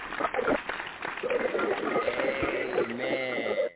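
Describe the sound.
A group claps steadily in a dense, busy patter, with voices calling out over the applause and a sustained voiced sound near the end.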